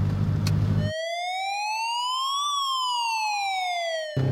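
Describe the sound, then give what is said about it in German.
A loud emergency vehicle siren sounds in one slow wail, rising and then falling in pitch. Brief stretches of rumbling engine or road noise come just before and after it. “Deshalb sind wir jetzt mit oder ohne Horn und Blaulicht auf jeden Fall gleich schnell da.”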